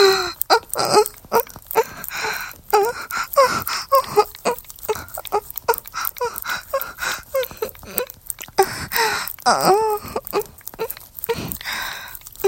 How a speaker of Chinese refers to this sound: 一听到姐姐的娇喘，你的喘息就开始变粗了，真是个小色鬼呢。